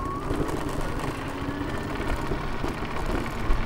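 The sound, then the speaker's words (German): The small electric motor of an electric scooter whirs faintly as it pulls away, beneath a dense, steady rattling and jostling of its wheels rolling over rough cobblestones. The sound is continuous, with a brief sharper bump near the end. “Beim Anfahren surrt es leise, später überwiegen die Rüttelgeräusche vom Kopfsteinpflaster.”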